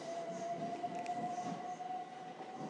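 A train to Reading comes in quite fast at platform 11 of a railway station, with a broad rumbling roar and a thin, sustained metallic whine from the wheels, fairly loud and continuous throughout, with no voices present.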